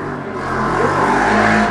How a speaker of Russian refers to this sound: О, байкер! Скорость.